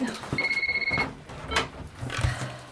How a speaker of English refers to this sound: Your phone kept ringing and I was on an important call.